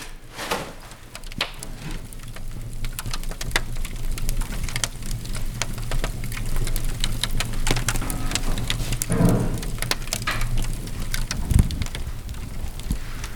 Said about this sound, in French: Crépitement du pain qui vient de sortir du four.